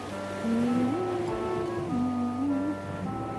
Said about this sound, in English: It's an undersea call. Oh, I can hear it. I hear the ocean